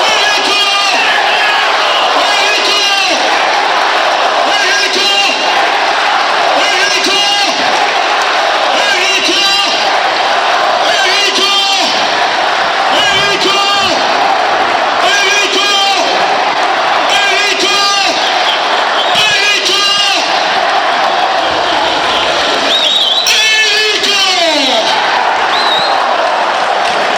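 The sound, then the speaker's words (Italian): A football crowd at the Tardini stadium roars and cheers after Enrico Del Prato scores Parma's third goal on a counterattack for 3-1, a loud, dense wall of voices sustained for nearly half a minute, with rhythmic surges of shouting and chanting rising through it. “Vi facciamo ascoltare il Tardini.”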